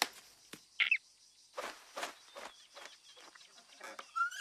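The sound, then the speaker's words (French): A bird gives a sharp, high call near the start, followed by a series of soft, rustling bursts like wings flapping, with a faint whistling chirp near the end. “Cet oiseau fait peur à mes amis.”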